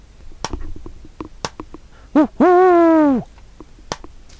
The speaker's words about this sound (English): Owls, Spencer thinks miserably. Don't ever let up until they've delivered the fucking mail.